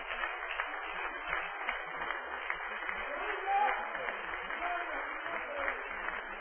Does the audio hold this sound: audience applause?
yes